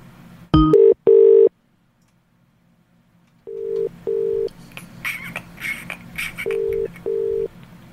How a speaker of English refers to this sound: We missed a phone call there, so I'm just going to call this person back.